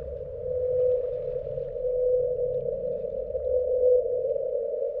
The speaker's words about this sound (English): The pattern of the song matched pretty closely with that of blue whales, but it came in at 52 hertz, which is, 20, 30 hertz off of what whales typically sing at. Whales typically sing closer to 10 or 20 hertz, so it was a very unusual sound.